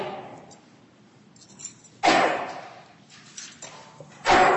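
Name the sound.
sneeze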